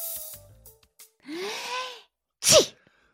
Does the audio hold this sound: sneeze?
yes